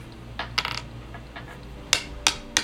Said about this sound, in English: Unless these dice on this table are really loud. I don't want it like just rolling the whole time if we can help it.